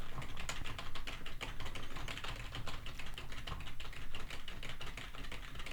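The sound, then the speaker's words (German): Rapid, steady typing on a computer keyboard, recorded with a Shure SM7B microphone, with dense, irregular key clicks and no voices, continuing for several seconds. “Ich hau jetzt mal in die Tastatur und wir werden sehen, wie die Geräusche sich auf der Aufnahme niederschlagen.”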